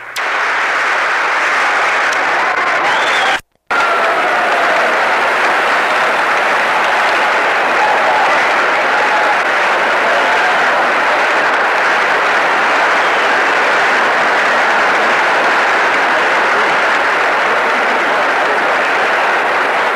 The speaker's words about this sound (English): He's leaving now. Going at the door into the cloakroom, and the assembled members of the two houses of Congress remain standing, applauding as he leaves.